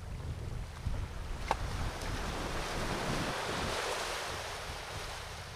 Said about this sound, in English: This evening, I've come for a walk along the coast. I think there's something so calming about spending time near water. It just looks peaceful. I hope you can hear the waves ebbing and flowing on the shingled beach as I walk.